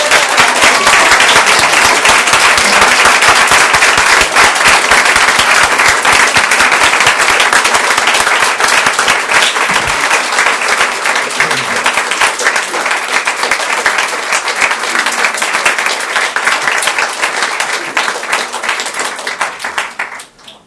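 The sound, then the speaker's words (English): A large audience stands and claps loudly and continuously for about twenty seconds, a dense wash of applause that holds steady before fading slightly at the end. “So if everybody could please stand and give her a round of applause.”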